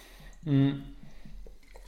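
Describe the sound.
Someone takes a quick sip of water: a single brief gulp with a soft voiced hum, followed by faint, quiet handling sounds.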